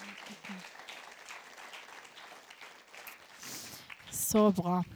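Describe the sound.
A crowd applauds in a dense, steady patter of many hands for several seconds in thanks to a speaker, and the clapping fades as a voice speaks loudly at the end.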